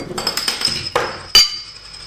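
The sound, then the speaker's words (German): Glasses clink together in a toast, bright. Several light touches build to a sharper final clink, each leaving a high ringing tone that slowly fades. “Jetzt. Zum Wohl. Zum Wohl.”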